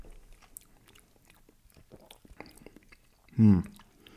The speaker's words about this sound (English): And you'll probably hear, I sort of almost like chew it a little bit. You know, it's nice to get some air in your mouth. So you take a sip and then kind of give it one of those, like get some air in there and chew it